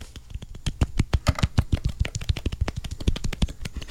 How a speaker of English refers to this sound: My favorite bit is the small claps. Okay, small claps for David.